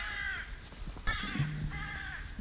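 Several crows caw in harsh, repeated bursts in fields and trees, heard during a walk between rain showers, with three main calls spaced across a couple of seconds, outdoors over a low background rumble.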